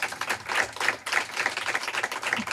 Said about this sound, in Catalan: O sigui, un aplaudiment per a …, per favor.